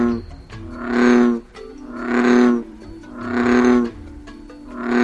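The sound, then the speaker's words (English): A male bullfrog bellows three times in a slow, steady rhythm, each call a deep, droning, resonant rumble lasting about a second, loud with no voices. “That's not surprising when you hear the bellow of a male bullfrog.”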